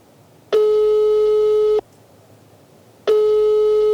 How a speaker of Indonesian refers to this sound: Coba telepon deh. Bentar, gua telepon ya.